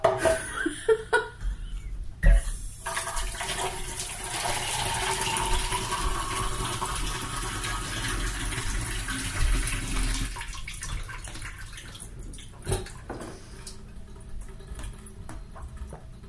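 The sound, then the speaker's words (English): Water pours steadily from a faucet into a sink, a broad hissing rush with some splashing patter, starting after a few brief knocks and easing off near the end, as water is run to get a drink. “I'm sad that I've lost it, and all I had to do was put my finger on the sink drain”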